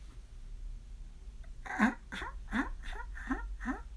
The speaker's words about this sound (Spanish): Se seguía escuchando el llanto.